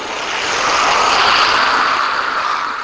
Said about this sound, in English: Well, all this blasted traffic goes by. I've never seen so many cars. Here we go again. This is the one thing about running on this road in the morning that I despise. I hate it. This is just so much traffic.